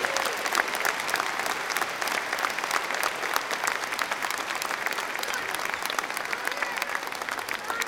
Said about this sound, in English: Now, can we give Holy Cross another big round of applause, please? That was really, really, really good.